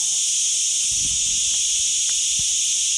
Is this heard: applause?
no